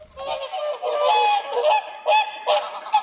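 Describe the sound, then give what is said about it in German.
Swans at a swan pond honk in a loud, nasal chorus. Overlapping calls rise and fall in a ragged rhythm, and several sharper honks stand out. No one speaks. “Rüdiger Tortsch hat sich auf den Weg zum nächsten Schwanenteich gemacht und nach der Lösung geforscht.”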